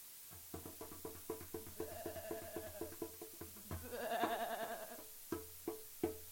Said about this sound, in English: You brought a goat? So that I may slit its pretty little throat,